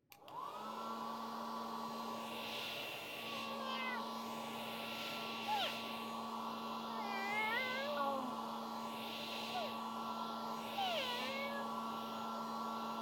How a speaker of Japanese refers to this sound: 一通り体が拭かれた後は、ドライヤーで仕上げの時間がやってきます。